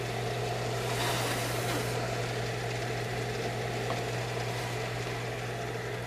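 The fan of a bubble machine, blowing air through holes holding bubble solution, gives a steady mechanical whir with a low motor hum and a broad hiss of moving air that runs unchanged throughout, fairly loud, with no voices.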